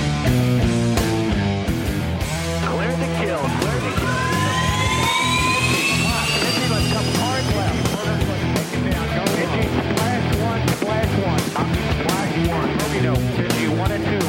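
A single-engine, single-seat frontline fighter jet with a high-visibility bubble canopy, single tail and side stick roars and sweeps past with a rising, Doppler-like whine, mixed under loud, driving rhythmic music that continues throughout.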